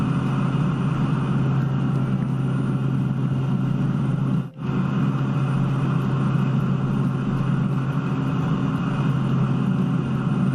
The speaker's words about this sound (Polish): zakończymy pokazem umiejętności najprawdopodobniej pilota chorwackiego Pilatusa PC-9. Pilot latał kilka metrów nad ziemią, miejscami lecąc ponad 400 km na godzinę, a na koniec przyleciał pod mostem Mirna.